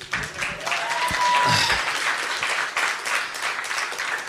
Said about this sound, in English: Amen. Yes, you can clap.